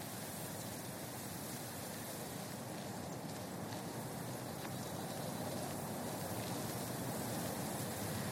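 strong wind blowing outdoors

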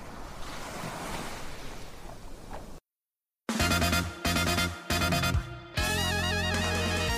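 ocean waves

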